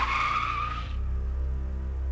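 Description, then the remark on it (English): A car brakes hard and swerves to the side of the road, its tires squealing in a loud, high-pitched skid for just under a second, then the screech cuts off, leaving a steady low engine rumble. No one speaks. “I braked and quickly swerved the car to the side of the road.”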